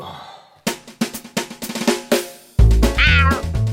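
A tomcat meows close by in a quick run of short, clipped calls, then lets out one longer, louder drawn-out meow that rises and bends in pitch. No one speaks.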